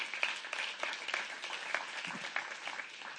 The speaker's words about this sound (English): Yeah, go ahead and give the Lord a good hand clap. Yeah.